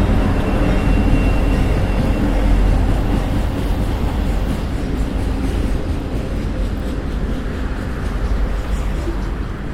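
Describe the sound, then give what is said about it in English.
A train rumbles past, a loud, steady low roar with rattling wheels that holds for several seconds and only slightly eases toward the end. “Let this train go by here.”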